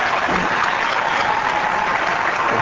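An audience claps steadily, a dense, even wash of many hands with no pauses or build, holding at a loud level throughout with no voices standing out.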